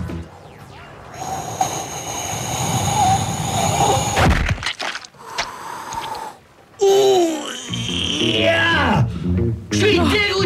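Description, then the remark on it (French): A single sharp, loud slap to the face, delivered in weightlessness, cracks out partway through, amid breathy vocal noises and muffled voices, followed by scuffling and more vocal sounds. “En apesanteur, la claque, t'as le temps de l'avoir arrivé 20 fois et j'ai même pas pu l'éviter.”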